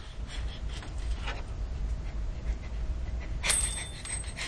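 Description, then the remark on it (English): A dog pants and lets out soft whimpers over a steady low rumble of background noise, with a brief high-pitched whine near the end. “The dog.”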